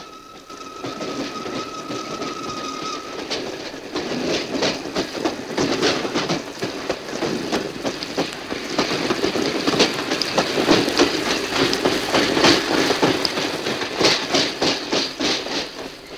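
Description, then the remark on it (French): A train rolls along the rails with a steady, dense rumble and rapid irregular clacks. A thin, high squeal rings for the first few seconds, and the noise builds slightly. “Du train, le bruit de la grêle, c'est assourdissant.”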